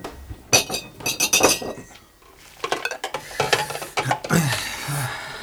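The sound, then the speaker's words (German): Glasses clink and chink against each other in a quick, busy series of bright knocks, pausing briefly before another cluster of rattling clinks as they are gathered up and cleared away. “Ich muss mich um die Gläser kümmern.”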